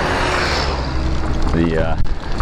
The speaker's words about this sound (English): It was a long day, and I'm just pausing here as a vehicle comes the other way.